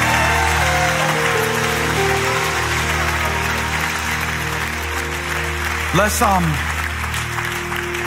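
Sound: audience clapping hands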